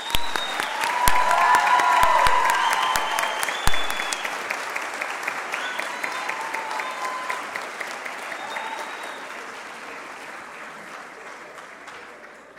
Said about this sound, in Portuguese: Convidamos para compor mesa de honra o pastor Alex Feliciano, da Igreja Evangélica Nova Vida em Cristo. Salva de palmas.